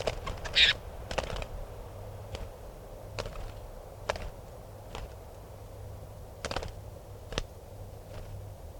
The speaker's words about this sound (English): Recording a wild bird here.